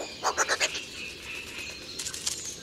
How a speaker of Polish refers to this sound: Osobniki obu płci w ekscytacji mogą natomiast wydawać ostry, skrzeczący rechot. Samiec zwykle wydaje ten głos, gdy na jego terenie pojawi się rywal lub też podczas pościgu za samicą.